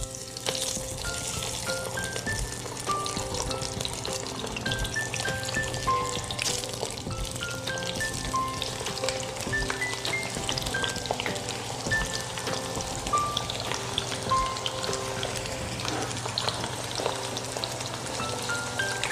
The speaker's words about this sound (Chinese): 所以呢，我先预热以后，我们先下麻油。黑麻油它的燃点呢比较低，大致上在80度左右的时候，我们要那个姜先煎，先把姜片先煎香。